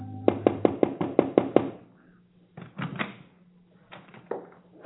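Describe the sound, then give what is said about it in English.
A quick, evenly spaced run of about seven sharp knocks on the wooden door of a house in Toulouse that takes in travelers, fairly loud, followed by quieter thuds and shuffling sounds. “They stopped at the first house that took in travelers and knocked on the door.”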